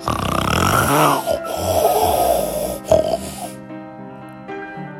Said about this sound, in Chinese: 只有到了晚上才有一丝平静和安宁，可是马可的爸爸居然打呼了，鼾声响亮的就跟打雷一样。